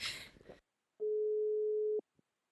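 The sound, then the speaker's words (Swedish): A brief burst of rustling noise, then a single steady ringback tone of an outgoing phone call sounds clearly for about a second, followed by silence. “Vi ringer”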